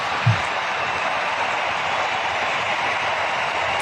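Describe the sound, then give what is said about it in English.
Steady, dense applause from a crowd, a broad wash of clapping that holds at even loudness throughout with a brief low thump near the start. “And the crowd reacted.”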